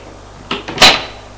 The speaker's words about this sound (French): Elle ouvre la porte et dit, Monsieur Prudent, faites entrer! Elle le fait entrer et ferme la porte derrière lui.